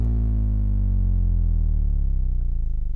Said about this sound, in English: And it just so happens that it's a very low frequency sine wave. So I'll give it a spin, and you can hear that this is just the sound of a hard drive motor amplified.